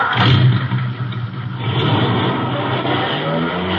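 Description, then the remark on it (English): A car engine revs loudly and steadily as the car sets off for a trip to Grass Lake, a dense low rumble with a throaty, continuous roar that holds for several seconds without any voices. “Rev it up. Contact.”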